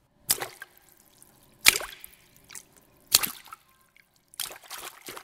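Four loud, wet splashes at uneven intervals, someone jumping into a puddle in autumn, each a sharp hit followed by a brief watery slosh, with quiet pauses between.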